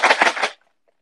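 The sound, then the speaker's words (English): Popcorn kernels kept in a fridge rattle in a container, shaken in three quick bursts of dry, crackly clatter lasting about half a second, then silence. “Oh my god, I have popcorn in my fridge!”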